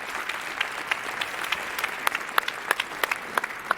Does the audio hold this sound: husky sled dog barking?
no